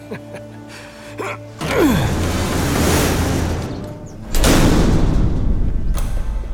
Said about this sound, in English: That's the biggest warehouse I've ever seen. Let's try this elephant door. I'll get the lock. Before you open it, sir, I'll cover you.